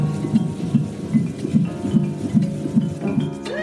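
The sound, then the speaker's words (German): A rapid heartbeat of a baby in early pregnancy on an ultrasound monitor: steady, muffled whooshing thumps at a fast even pace, about nine beats, fairly loud over a soft hiss, with no one talking. “Hören Sie das? Das ist der Herzschlag Ihres Babys.”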